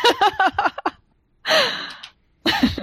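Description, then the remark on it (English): A voice imitates an underwater bellow as bubbling: a rapid burst of gurgling, blubbering pulses, then two loud breathy, noisy bursts separated by short silences. “More I am going to bellow, although it comes out as bubbles. Big bubbles.”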